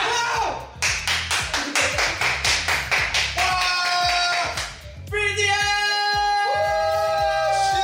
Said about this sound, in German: RM und Jimin springen auf. Jungkook klatscht und ruft ….